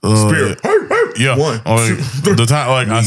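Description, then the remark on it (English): A person loudly imitates a dog, letting out a quick series of harsh, voiced barks and yelps, with no words spoken. “I speared him, looked at him, barked, pinned him.”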